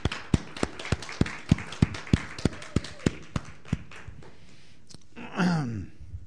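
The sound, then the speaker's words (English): Steady, evenly spaced hand claps given as a round of applause for the Rebbetzin, about a dozen sharp slaps in a brisk rhythm that thin out and fade after a few seconds, followed by a short vocal sound. “Let's give a round of applause for our Rebbetzin.”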